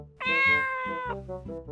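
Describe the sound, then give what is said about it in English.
A cat gives one long, drawn-out meow, fairly loud, then trails off into a softer, lower purring murmur. “Dad has a cat.”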